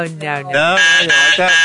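A voice imitates a buzzer with a loud, nasal, sustained buzz lasting under two seconds, its pitch wavering slightly, with no other sounds around it.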